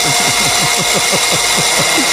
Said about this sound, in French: En fait, c'est quelque chose de ménager. De ménager. Ménager, un aspirateur. Voilà.